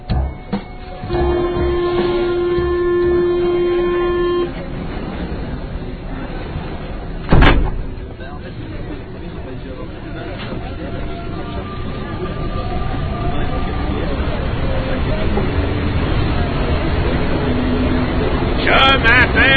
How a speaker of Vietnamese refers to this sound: tàu điện ngầm, đường số 8.